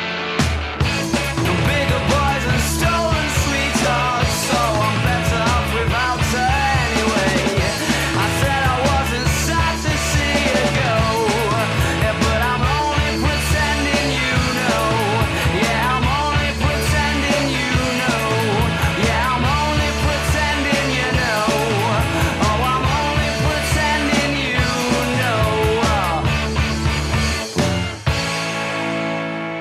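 An indie rock song plays loud and dense throughout, with driving drums, bright distorted guitars and a busy, steady rhythm, cutting off abruptly at the very end.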